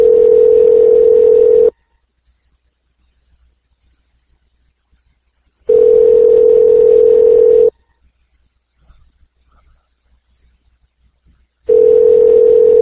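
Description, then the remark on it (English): Steady electronic ringback tone of an outgoing phone call, heard three times at an even pace: about two seconds of tone, then roughly four seconds of near silence. Nobody picks up, and there is no talking. “Notice nobody answers phone.”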